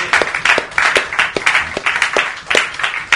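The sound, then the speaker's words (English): An audience breaks into steady applause, many hands clapping together in a dense, continuous patter that stays fairly loud for a few seconds with no talking over it. “I really think we should give them a round of applause.”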